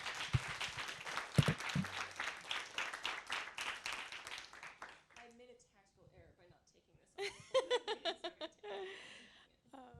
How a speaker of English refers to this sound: Can we have a round of applause for Patricia Lockwood, please?